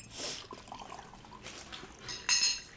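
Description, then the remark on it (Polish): Water splashes and trickles into a cup in short bursts, fairly quiet, as a son tops up water at a woman's request, ending with a bright clink of crockery. No one speaks. “A daj dolej mi wody, synu.”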